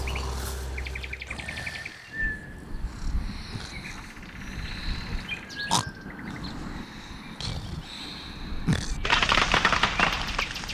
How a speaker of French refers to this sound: Le cri d'un toucan fend le ciel, mais le paresseux continue sa sortie.